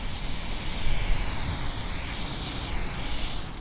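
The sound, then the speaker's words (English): A steady hiss of an aerosol spray paint can as an artist paints a mural, with a brighter, more forceful burst of spraying partway through before it settles back to a continuous spray. “And in February, a veteran aerosol artist painted a mural about 10 blocks away from the warehouse in honor of the victims who died in the fire.”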